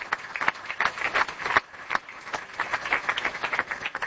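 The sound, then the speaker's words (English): An audience applauds the news that 350 million euro was raised, exceeding the original target by 50%, with a dense, steady patter of many hands clapping, moderately loud and sustained throughout, with no voices over it. “So you may applaud that if you'd like.”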